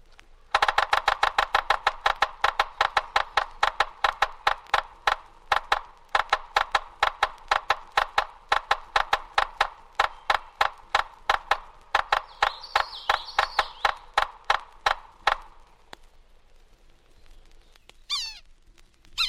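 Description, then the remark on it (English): A yellow-bellied sapsucker drums on wood: a fast burst of sharp taps that slows into a stuttering, unevenly spaced series of knocks before stopping, then a brief faint call. “Morse code of the yellow-bellied sapsucker is less regular than the drum of other woodpeckers, and its call note is harsh.”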